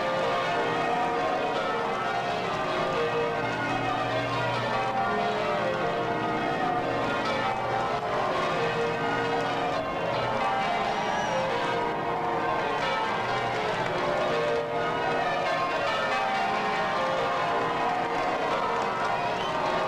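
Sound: church bells ringing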